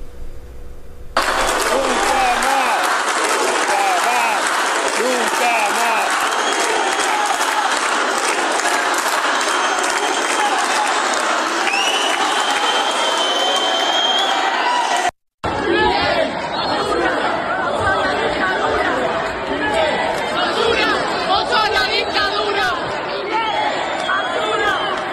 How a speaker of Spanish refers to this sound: Le gritan en el Teatro Colón esta tarde a Milei, candidato de la ultraderecha en la Argentina.